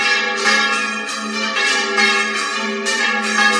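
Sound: church bell ringing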